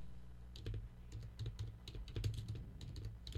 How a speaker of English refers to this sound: Now, see, you hear me typing.